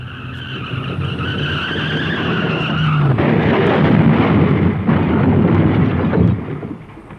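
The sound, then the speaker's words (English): A car's tires screech in a long, loud skid for about three seconds, then it crashes into another car with a heavy impact and several seconds of crunching, grinding noise before cutting off. “Watch out, Judy. We are going to hit that car.”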